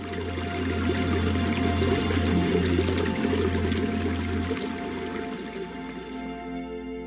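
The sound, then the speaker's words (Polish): Water in a stream runs steadily for several seconds, a continuous rushing, splashing flow with a low hum underneath. It eases slightly toward the end, and no one speaks. “Madonna znów prowadzi dziewczynkę do strumienia.”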